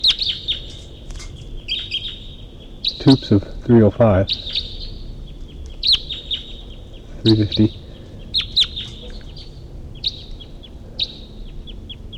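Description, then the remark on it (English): A wild bird that has flown over gives repeated high, thin chirping calls from the distance, fairly faint and steady, while a man briefly speaks over them twice. “And there's a wild bird. A wild bird at least flew over. And it's calling from the distance.”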